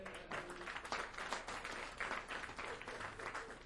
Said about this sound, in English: Let's give them a nice round of applause.